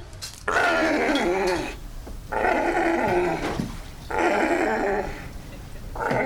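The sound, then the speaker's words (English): A distressed male sea lion growls and bellows loudly in four harsh, drawn-out bursts separated by short pauses, with no one speaking, as researchers in a chain-link enclosure trap it in a net and five of them hold down its fins to take blood and give treatments. “As the researchers walk into the chain link enclosure, the sea lion spasms and tries to run away.”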